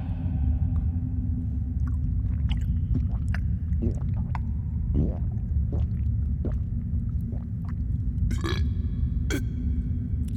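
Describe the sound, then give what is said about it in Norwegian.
Someone drinks water from a bottle spout, with a continuous low, throaty gulping rumble punctuated by small wet clicks and squeaky sips, and no talking. “Jeg må drikke litt vann. Jeg har ikke drukket det hele dag.”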